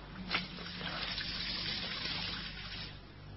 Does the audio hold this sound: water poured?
yes